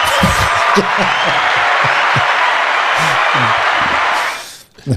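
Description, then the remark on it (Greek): A dense burst of applause fills about four seconds, steady and loud like a crowd clapping, with some low voice murmurs underneath, then cuts off abruptly. “Ευχαριστώ για το χειροκρότημα.”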